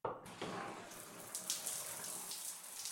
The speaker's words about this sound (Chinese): 拉你进淋浴室，当然是洗澡啊。